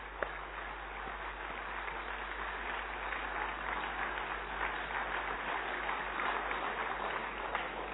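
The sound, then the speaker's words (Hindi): An audience claps together in a three-clap 'club clap', applauding the brothers and sisters of Gyan Sarovar, in a steady, dense wash of applause that holds at an even loudness for the full eight seconds, with no voices over it. “और हमारे ज्ञान सरोवर के भाई बहनों ने उसे चंद क्षणों में समेट करके हम सबके सम्मुख रखा, तो उन सब के लिए एक बार भरपूर रूप से हम ताली बजाएंगे. Three club clap.”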